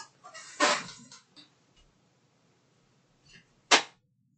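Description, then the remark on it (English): Two sharp hand slaps on an Xbox 360 console to get it open, a few seconds apart. The first is a loud smack with a brief rattling tail, the second a crisp, clean hit; little else is audible. “I had to slap the Xbox to get it open.”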